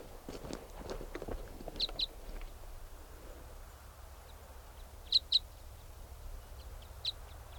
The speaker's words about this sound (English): 7:59, there's another Type 5 bird around, calling in response to 395, who's loud there, and this bird might come in.